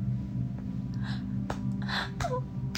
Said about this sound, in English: The shock, the size of you, makes me quiver and gasp.